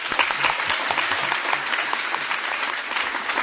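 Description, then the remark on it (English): An audience at a Shabbat gathering claps in praise of Yahweh for its young teachers, in steady, dense applause that holds at an even, fairly loud level throughout, a sustained wash of many hands with no voices rising above it. “I'd like to give a clap and applause, a praise Yahweh, to all our young teachers.”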